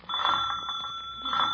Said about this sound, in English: Where's the bell? Oh.